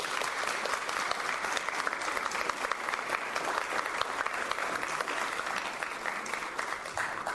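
An audience applauds a woman who has just been called up to speak: a steady, dense wash of many hands clapping at an even loudness for several seconds, with no clear rhythm and no voices standing out.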